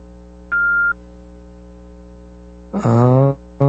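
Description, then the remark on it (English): The telephone hold tone of a police department in Brownsburg beeps over a steady low line hum: one clean electronic beep, a pause, then a brighter buzzy tone and the start of another, with no talking. “And that beeping noise is their awful hold music.”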